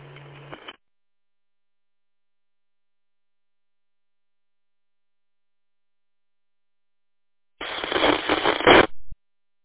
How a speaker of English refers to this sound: There's another station trying to get in there. That other station, give it another try. All I got was static there.